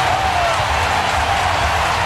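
A baseball stadium crowd cheers as the game goes to the bottom of the fifth inning, with the Brewers trailing New York 3-1, in a dense, steady roar of many voices that holds at an even, loud level for about two seconds, with no single voice standing out.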